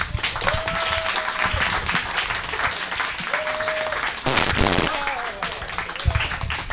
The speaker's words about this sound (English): A big applause for Annalie Newitt.